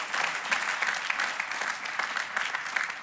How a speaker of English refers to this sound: I think he deserves a huge round of applause.